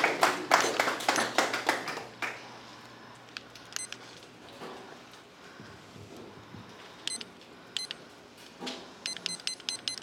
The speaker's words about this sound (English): I'm trying to figure out how to work my brand new timer that I just bought because my other one broke. Okay, I figured it out.